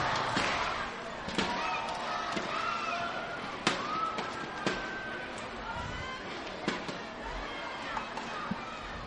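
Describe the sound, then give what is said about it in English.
A baseball crowd at Clover Park, stirred by a pair of doubles, yells and cheers in a loud, steady roar of many voices, with shrill shouts rising above it and scattered sharp claps or bangs throughout. “And they have ignited this crowd. Listen to them yell here at Clover Park.”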